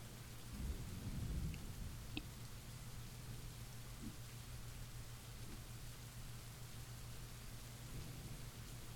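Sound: rain falling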